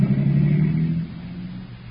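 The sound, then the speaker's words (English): The household's car drives away, its engine a low, steady rumble, loud at first and then gradually fading over about two seconds, with no voices. “Mary Noble and Tom Bryson listened to the fading motor with a mixture of wonder and fear.”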